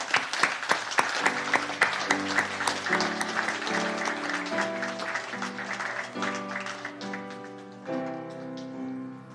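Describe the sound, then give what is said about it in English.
A church audience at a Baptist church graduation service breaks into steady, sustained applause welcoming the 2023 graduating class, dense overlapping claps that hold for several seconds while tonal music with shifting held chords plays underneath. “Of course, this is a special service tonight with our graduating service, and we want to begin the service by welcoming in the 2023 graduating class, and let's go ahead and give them a round of applause as we welcome them in tonight.”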